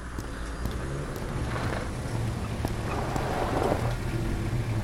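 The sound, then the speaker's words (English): A steady, low truck engine rumble idles continuously throughout, fairly loud, with a constant droning hum and faint clanks over it; no one speaks. “I need to bring my truck back out and move your car.”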